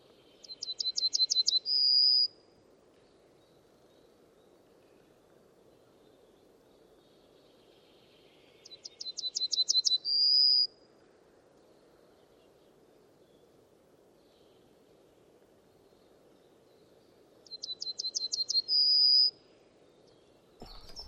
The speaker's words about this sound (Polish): Trznadel. Nagrywamy trznadla.